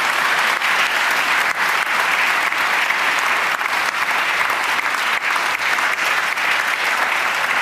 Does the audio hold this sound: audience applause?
yes